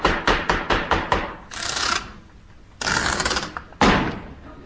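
A quick run of about six sharp hammer blows, fairly loud, then longer rough scraping and splintering bursts as wood seems to be pried apart while a grey-painted musical box is opened with a hammer. No one speaks.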